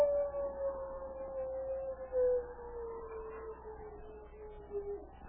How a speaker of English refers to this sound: When the storm had spent itself, a great silence fell over the white wilderness. The silence that was broken only by the infrequent howl of a wolf.